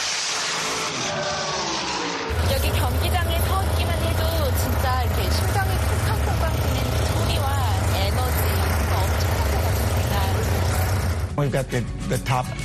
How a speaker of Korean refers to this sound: 저희가 소유하고 있는 쿼터 마일 드래그 스트립이 오늘 경주를 할 곳인데 저희는 연중 내내 드래그 스트립에서 매 주말 경주를 하고 있습니다. 공기를 가르는 폭발적이고 우렁찬 자동차 엔진 소리를 직접 가까이서 들으니 더 신기했습니다.